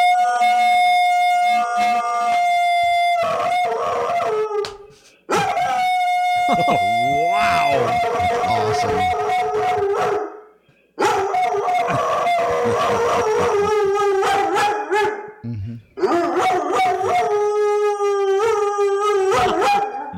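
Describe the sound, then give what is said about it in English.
A dog howls in long, wavering bursts along with a wailing siren, the sustained tones rising and falling through four loud stretches separated by brief pauses, with a few short spoken reactions. “This is a dog that has a great reaction to the siren.”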